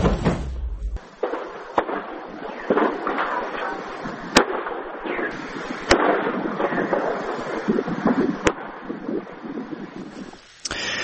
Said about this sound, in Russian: Только что такое пошла взрывная волна. Там кошмар. Ой-ой-ой-ой-ой.